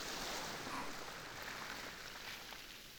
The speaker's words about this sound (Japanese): 波がもう寝ているあなたの髪を濡らしてる。そろそろ移動しないと波があなたをさらってしまうわ。